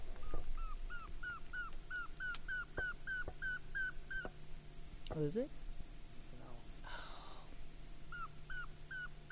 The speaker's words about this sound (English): That was a northern saw-whet owl, returning our playback calls.